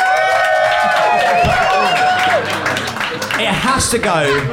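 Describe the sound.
A live audience in Phoenix applauds to vote for the best case in a debate, clapping steadily for several seconds, dense clapping mixed with whoops, high shouts and cheering voices rising over the top throughout.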